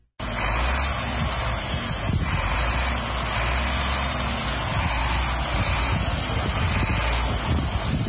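A heavy truck engine rumbles steadily throughout, a deep, loud, continuous drone with a rough low-pitched texture and no voices. The heavy goods vehicle is driven by Massata Cissé, known as Mama Africa, a truck driver in Burkina Faso.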